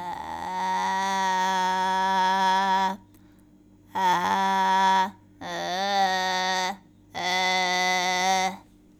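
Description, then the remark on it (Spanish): A voice imitates a witch with a bright, nasal, pinched tone, held in four sustained, wavering bursts separated by short pauses, fairly loud with no spoken words; a vocal exercise made by starting with vocal fry and gradually adding voice while keeping some of the fry's distortion. “Estás escuchando un ejemplo de cómo lograr la voz de brujita.”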